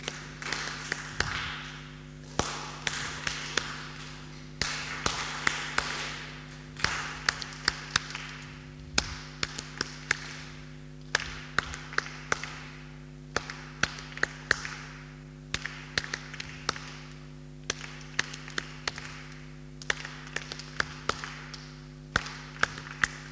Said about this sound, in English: We're going to clap a rhythm. What rhythm shall we clap? We're going to clap a rhythm. What rhythm shall we clap? Go on. Do it again.